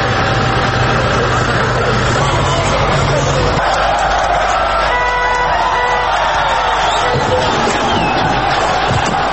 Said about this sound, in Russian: Как можно услышать на архивной записи, снос установленного в 1951 году памятника проходит под аплодисменты собравшихся.